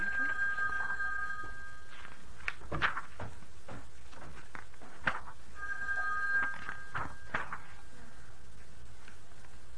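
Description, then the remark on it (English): A telephone rings twice in steady electronic trills with a pause between them, clear, with faint knocks and murmuring voices behind it. “Get the phone. Get the phone for me.”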